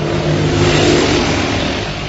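Loud, steady roar of engines from ordinary cars and motorcycles passing along Valiasr Street, the longest street in Tehran, Iran, with revving and the rumble of vehicles, no voices.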